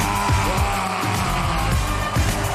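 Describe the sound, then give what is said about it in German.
A large live hip-hop concert crowd in Chemnitz screams and cheers in a loud, continuous roar as urged by the performers, with deep thumping underneath and no clear speech. “Schrei mal und sei mal so laut ihr könnt.”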